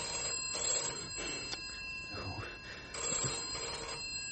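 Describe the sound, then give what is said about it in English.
A telephone rings steadily and insistently the whole time, fairly loud, with indistinct voices and movement murmuring beneath it. “Well, it'll go on ringing until you answer it.”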